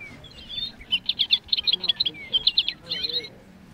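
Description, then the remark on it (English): A singing stuffed toy bird in a bookstore gives bright, rapid recorded chirps that repeat in quick bursts for about two seconds, clear, with a faint background murmur underneath. “stocks the stuffed animals in the bookstore, including the singing stuffed birds.”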